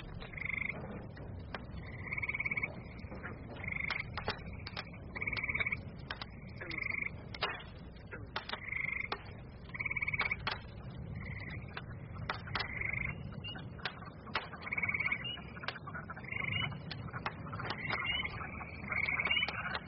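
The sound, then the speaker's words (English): A loud, dense chorus of frogs croaking continuously, with repeated short calls overlapping in an irregular rhythm over a low background rumble. “God, those frogs are loud. They've increased.”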